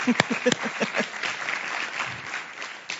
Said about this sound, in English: So thank you. Thank you. Hey, you can clap. Yep.